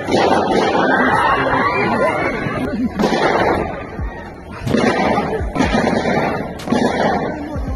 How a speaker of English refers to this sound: Screams could be heard as the sound of gunfire crackled, pools of blood collected on a sidewalk.